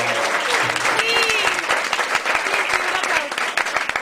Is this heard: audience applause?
yes